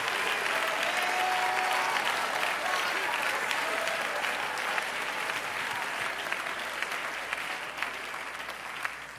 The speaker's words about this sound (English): Somebody needs to clap their hands to the Lord right now, and somebody needs to lift up your voice if you want to follow the cloud.